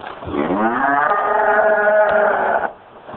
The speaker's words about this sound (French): Ça, ce sont des vaches laitières. Nous les avons achetées à la jungle.